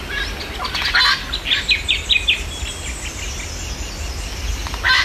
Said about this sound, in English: I've had a bit of a listen to the recording you sent me from Walleye Creek. And there's a lot going on there. There's a lot of birds. But the ones I could pick out were variegated fairy wren, little wattle bird,